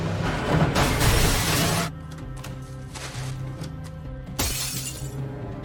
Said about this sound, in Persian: عالیه، با ماشین رفتیم تو شیشه